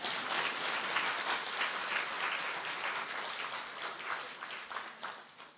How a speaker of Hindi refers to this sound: भाई ताली तो बजाओ जरा।